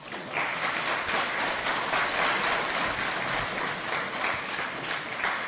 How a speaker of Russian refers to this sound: Пудель в свадебном платье вызывает шквал аплодисментов. В кировградской колонии для несовершеннолетних такого смеха давно не слышали. Тюремный клуб колонии забит до отказа. В зале около 100 человек.